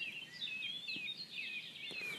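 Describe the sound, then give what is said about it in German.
A Eurasian blackcap sings a continuous, rapid warbling phrase of bright, varied notes, heard alone against a quiet outdoor background. “Da haben wir eine neue Art. Kann sein, Bruder der Gartengrasmücke.”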